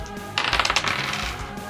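dice being rolled

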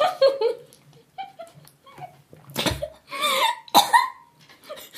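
coughing

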